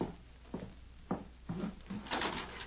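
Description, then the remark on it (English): A back door being opened: a few distinct clicks and knocks from the latch, then a rough scraping swing, with no voices. “Guess I'd better open that back door now.”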